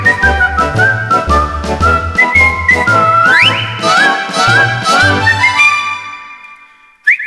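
Someone whistles a bright, sliding melody over a steady instrumental backing track with a pulsing bass; the tune is clear and upfront, continuing for several seconds before stopping abruptly.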